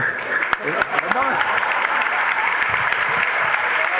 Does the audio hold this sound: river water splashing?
no